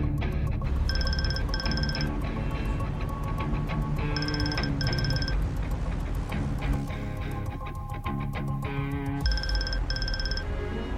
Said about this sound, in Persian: رسول دوباره به گوشی هاجر زنگ میزنه.